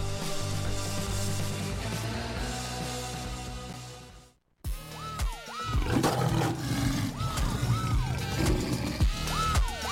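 A loud lion roar fills the first few seconds, breaks off in a brief silence, then returns as a series of rumbling roars and growls with rising and falling tones, no voices.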